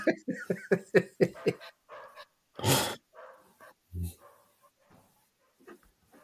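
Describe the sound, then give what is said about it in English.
A dog barks in a rapid burst of about seven sharp barks, then lets out a couple of scattered louder yelps, with faint voices murmuring afterward. “starts barking, it's quite, it's quite straightforward.”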